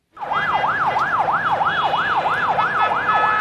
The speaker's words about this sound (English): The sound of an exodus from southern Lebanon today. Traffic heading into the city of Sidon as families escaped from intense Israeli bombardment, which has killed more than 500 people over the past 48 hours.